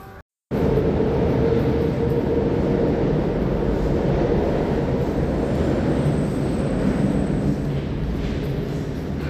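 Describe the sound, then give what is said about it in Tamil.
A steady, loud rumbling roar of a Tambaram-bound train passing overhead, heard while walking through the Park Town pedestrian subway tunnel at night, with echoing vibrations and dense low-frequency rumble sustained throughout after a brief quiet start. No speech. “என்னோட திடீர்னு அதிர் வலைகள் எக்கோ அடிக்கும் பார்த்தீங்களா, டனல் வழியாக நடந்துகிட்டு இருந்தேன், மேலே ஒரு தாம்பரம் டூ ட்ரெயின் போயிட்டு இருந்துச்சு.”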